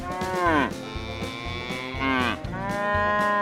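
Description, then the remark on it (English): Three cows on a farm moo in a few long, loud calls, one after another, with low background rumble and no talking. “Count the animals on the farm. How many cows are on the farm?”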